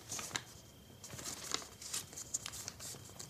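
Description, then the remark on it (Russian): Crisp paper crinkling and rustling of a printed waybill form in irregular bursts, with sharp bright crackles scattered over about three seconds, fairly quiet and with no voices. “А хрустит, как серый червонец.”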